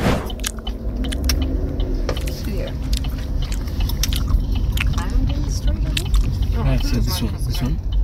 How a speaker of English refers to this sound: That chewing was incessant. And that was actually like a more relaxed chewing.